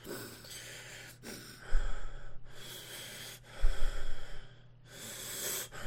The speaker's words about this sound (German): man hört es hier gerade wieder sehr gut, dieses Schnaufen dazu. Also er macht sich nur diese Schnitte da oder dieses Brötchen, ne, mit Marmelade oder was auch immer das ist und du hörst wirklich im Hintergrund diesen.